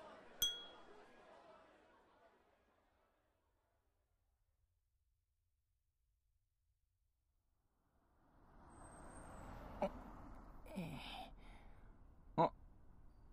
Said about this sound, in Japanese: はい、それじゃ乾杯。